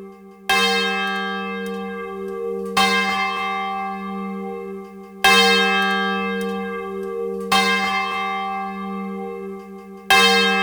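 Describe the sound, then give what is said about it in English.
A large swinging church bell rings as a traditional call to worship for the community, each stroke landing every two to three seconds with a bright metallic clang and a long, humming resonance that hangs between strikes. No voices are heard. “The unmatched realism of the swinging bell provides the community with a traditional call to worship.”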